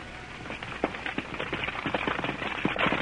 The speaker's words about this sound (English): Stop that wagon. Whoa. Whoa, boy.